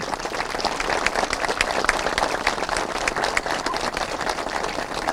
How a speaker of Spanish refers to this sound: Así que estas 19 familias que hoy tienen su vivienda, más de 60 personas, parece un fuerte aplauso por el compromiso y el logro obtenido.